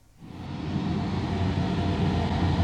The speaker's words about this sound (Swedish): Ja, det ljud som hörs här, det blixtrar och dundrar.